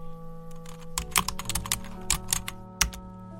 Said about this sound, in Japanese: もう一度見たいと思った映画を諦め、春樹の小説も片方に押しやり、キーボードを打ち始める。